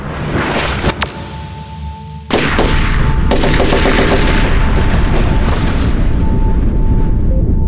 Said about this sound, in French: Au même moment, un ancien élève âgé de 19 ans passe les portes du bâtiment. Il tient un fusil d'assaut AR-15 Smith & Wesson dans les mains et sans sommation ni explication, commence à tirer.